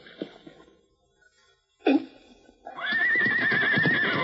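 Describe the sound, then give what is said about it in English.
A horse (a cayuse) hidden in bushes lets out a loud, wavering whinny lasting over a second, preceded by a short huffing snort and some faint shuffling earlier on, with no talking. “Maybe I can rope that horse and bring him out in the open.”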